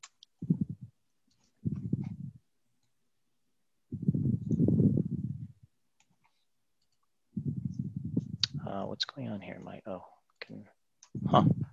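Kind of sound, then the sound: household object, computer keyboard keys clicking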